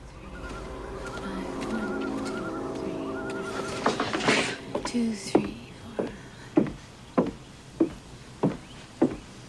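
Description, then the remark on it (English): Footsteps of a woman walking along at a steady, even pace, head bowed and counting her steps, about seven distinct steps in the latter half, clear, following a stretch of soft tonal background sound. “she sees Electra, head bowed, counting her steps as she walks along”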